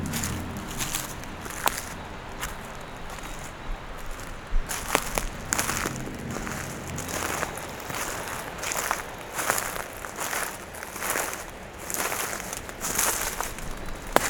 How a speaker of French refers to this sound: Les feuillus qui crépitent.